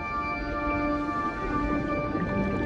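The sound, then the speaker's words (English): A steady, continuous underwater stream of bubbles from the scuba gear of a line of divers kneeling on the ocean seafloor, a dense gurgling rush with a low muffled rumble and faint steady tones, holding even for the whole stretch with no voices. “Bubbles stream from their gear.”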